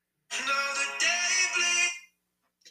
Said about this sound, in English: And I really need to learn how to put my phone on vibrate whenever I start this. I don't even know who this is. So you can go bye-bye.